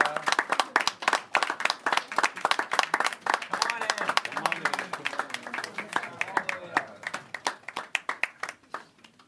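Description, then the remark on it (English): A room full of people breaks into sustained applause, dense overlapping claps that stay steady for several seconds before thinning into scattered, sharper individual claps. “Oh, applause.”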